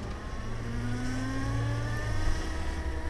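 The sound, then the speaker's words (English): A steady electric whine with rising tonal harmonics as a Zero electric motorcycle accelerates through the streets of downtown Washington, D.C., accompanied by a low rumble of road and wind noise, fairly loud throughout. “took the Zero motorcycle through the mean streets of downtown Washington, D.C.”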